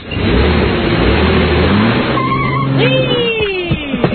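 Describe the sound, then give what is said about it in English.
A car engine roars steadily, then revs higher with a rising whine as the vehicle accelerates and pulls away, with a few clunks near the end. “Having a car.”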